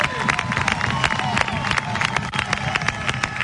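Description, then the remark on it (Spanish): A crowd of Huelva (onubense) supporters applauds their elders at an award event, steadily: dense clapping mixed with cheers and a murmur of voices, loud and sustained with no pauses throughout. “Un aplauso para vuestros”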